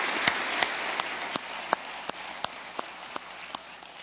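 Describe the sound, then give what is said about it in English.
Audience applause for a woman as she walks out: a dense, steady wash of clapping throughout, with sharper single claps standing out at a regular, even beat. No one speaks. “Could you give her one more round of applause?”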